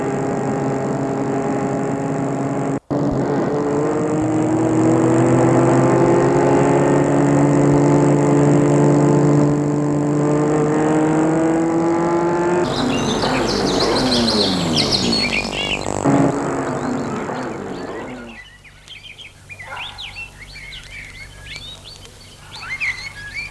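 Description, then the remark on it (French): A car engine is started and hums steadily, its pitch creeping upward, then gives way to a rougher rushing noise before fading out, leaving birds chirping in the background. The car is driven to open the gate of a large walled estate in the countryside. “Sont de voiture pour aller ouvrir le portail.”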